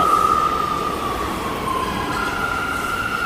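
A New York City subway train rumbles steadily, with a sustained high metallic squeal from the wheels drifting slightly in pitch throughout. No voices.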